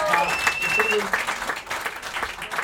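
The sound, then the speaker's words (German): A short burst of applause for a young man, several hands clapping in a dense, steady patter at moderate loudness for a few seconds, with a faint whistle-like tone at the start. “Kleiner Applaus für den jungen Mann, der ist.”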